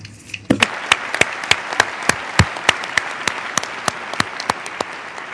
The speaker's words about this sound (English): It is so decided. We can now applaud.